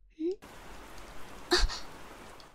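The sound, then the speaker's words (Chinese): Steady, soft rain patters and hisses throughout, with a short breathy vocal sound at the start and a brief louder splash of drops about halfway through. “看，我就说吧，下雨了，快过来吧，来。”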